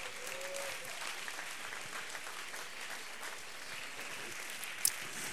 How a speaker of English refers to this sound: Clap your hands unto the Lord in Jesus' name.